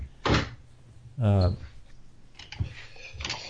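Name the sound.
door being closed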